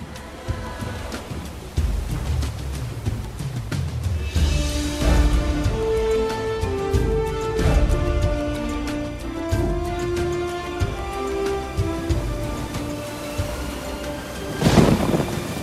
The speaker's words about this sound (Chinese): 忽然间，一阵闷郁的雷声从水面传来，兰奈德回头眺望火山，大声叫着：“ 不得了了，火山爆发了！”